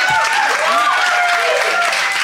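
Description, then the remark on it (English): An audience applauds loudly and steadily for Josie Long, dense clapping filling the whole moment, with some cheering and excited voices rising above it. “And applause for Josie.”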